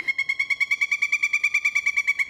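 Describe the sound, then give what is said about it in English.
A pileated woodpecker calls in a fast, steady run of loud, ringing notes, about eight per second, heard alone with no other sounds. “That, of course, was the pileated woodpecker.”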